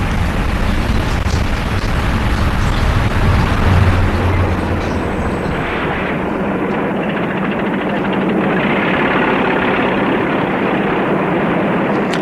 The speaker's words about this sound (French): Voilà le chauffeur qui rentre dans le camion et met le camion en marche.